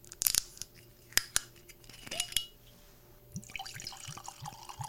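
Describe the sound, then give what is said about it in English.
A few sharp clicks and snaps as a bottle of Tokubetsu Junmai Nigori, a cloudy sake made with Gohyaku Mangoku rice at 15% alcohol, is opened, followed by the sake pouring and gurgling into a glass with small splashes and trickles, no voices. “So we're going to go ahead and open this up and get it into our glass.”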